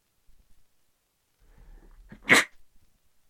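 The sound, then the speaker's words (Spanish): A single loud sneeze, preceded by a short breathy intake and ending in one sharp, explosive burst, with no one talking. “Sí, perdón, tuve que estornudar.”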